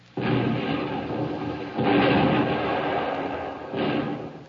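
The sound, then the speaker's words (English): Naval artillery shelling by the United States Third Fleet in Tokyo Bay: three heavy, roaring blasts about two seconds apart, each a broad rumbling boom that lingers and fades into the next, with no voices. “The United States Third Fleet shelling Tokyo Bay.”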